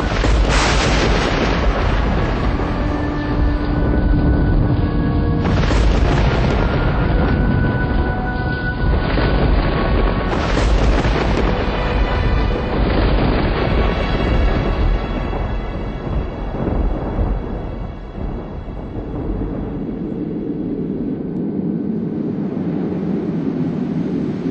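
Loud thunder from a night lightning storm in Chongqing, with over 11,400 lightning strikes, about one every 3 seconds, rolls and rumbles almost continuously, with sharp cracking bursts breaking out every few seconds before a deep, steady rumble settles in toward the end.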